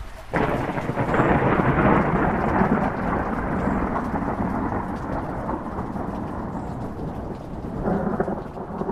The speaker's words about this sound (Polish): Mówi się, grozi deszcz. A deszcz nie grozi. Deszcz lituje się nad dzióbkami zziajanych ptaków, nad ogorzałą twarzą zgrzanej ziemi, nad przepoconą sierścią pól, czule zakrapla zapruszone, modre oczy niezapominajek, po tysiąckroć obcałowuje buźki róż.